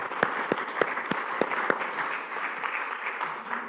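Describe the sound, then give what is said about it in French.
An audience at a church assembly bursts into applause for a scholarship recipient, a dense crackle of many hands with a few sharp, evenly spaced claps standing out at first before it settles into a steady, moderately loud patter. “Alors oui, on peut l'applaudir.”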